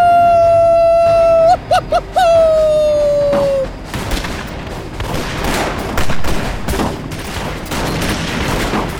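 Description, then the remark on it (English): A sustained high, wavering howl-like tone gives way to a dense, continuous barrage of gunfire and blasts at night from all sides of canyon walls, loud, with overlapping shots crackling from many directions. “Suddenly, the night lit up with explosions of gunfire from all sides of the canyon walls.”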